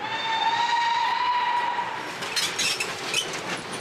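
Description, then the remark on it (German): A narrow-gauge steam train gives a long, loud whistle, then puffs and hisses in uneven bursts as it labours up a mountain on the last kilometres before Davos, with no one speaking. “Dann schnauft diese Schmalspurbahn, die schnauft da so in den Berg hoch.”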